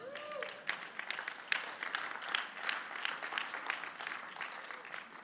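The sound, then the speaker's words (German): An audience claps for Jesus steadily for several seconds, a dense, bright patter of many hands at a fairly even level, with a few louder claps standing out and a brief faint tone at the start. “Oh, das gebe ich doch auch wieder einen Applaus für den Jesus.”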